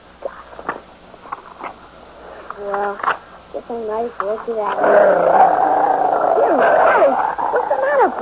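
animal, dog growling

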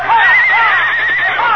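animal, horse neighing

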